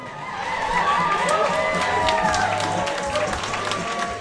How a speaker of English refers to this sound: At the Jared Golden campaign in Lewiston, a crowd of more than 150 erupted into cheers as they watched national returns on a big screen TV showing Democrats on the brink of recapturing a majority in the U.S. House.